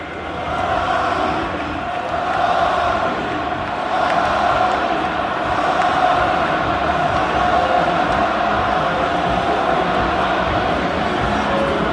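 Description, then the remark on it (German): A large crowd at the Camp Nou stadium in Barcelona chants Xavi's name in unison before a match, a dense, steady roar of many voices that stays loud and sustained throughout. “Ja, ihr hört es, auf Bestellung quasi skandiert das Camp Nou Xavis Namen.”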